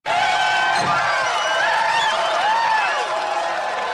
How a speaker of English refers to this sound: Now, that's not the Views audience cheering, obviously.